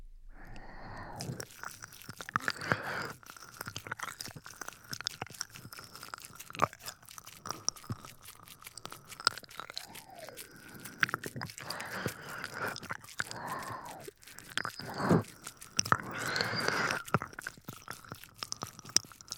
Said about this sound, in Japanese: 私も同じように覆いかぶさって、ちょっと、じゃあベロベロって耳舐めていくよ。